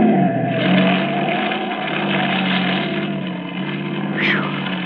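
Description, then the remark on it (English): A car roars loudly and steadily, engine noise filling the scene, with a brief high tire squeal sliding past near the end as it skids on a road made slippery by oil from an overturned oil truck. “That screwball almost skidded right into us.”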